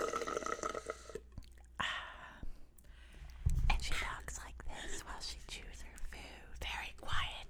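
Soft, breathy ASMR whispering runs throughout, punctuated by small wet mouth clicks and smacks, with a brief low thump midway; quiet and intimate in tone.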